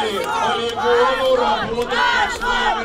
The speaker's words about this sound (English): At this rally in July, people shouted down a local official with cries of shame, shame.